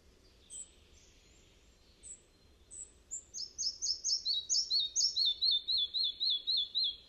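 A bird sings a few spaced high whistles, then a fast, steady run of rising and falling whistled notes that repeat rhythmically and fairly loudly over a faint low background rumble.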